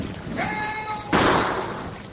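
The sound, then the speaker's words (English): A single sharp gunshot cracks out after a short tonal whistle, its burst trailing off into a lingering, echoing decay with no voices present. “Shot come from boat at end of dock, perhaps.”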